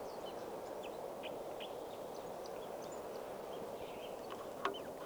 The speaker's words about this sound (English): back at the scout camp, the water hole, and there's a bird right here, a red male, singing from a low branch right above the water hole.